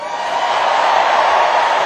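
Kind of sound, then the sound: crowd, crowd cheering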